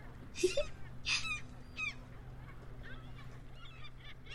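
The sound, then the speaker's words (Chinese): Seagulls call in a few harsh, squawking bursts at the shallow-water seaside where a ship is in view, louder at first, then fainter and more scattered, over a steady low background rumble by the shore. “轮船，还有海鸥，”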